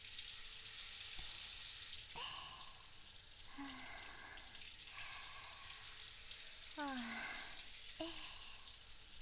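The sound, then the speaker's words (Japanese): Steady shower spray hisses without a break as water rinses away soap foam, with several short whining, squeaky tones rising over the rush. No one speaks. “シャワーで泡流しちゃいますね。”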